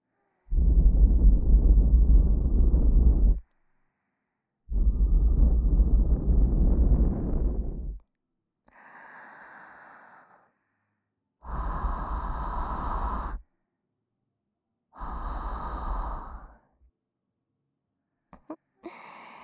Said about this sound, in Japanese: 逃げないで。うちのあったかい吐息。もっと耳穴に吹き込んであげる。